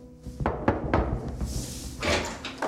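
Several knocks on a door, four fairly firm, slightly uneven raps, followed by a softer hissing rustle as something shifts. No one speaks.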